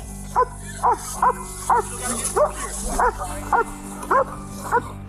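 police dog barking

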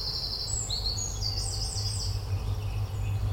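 eurasian wren singing

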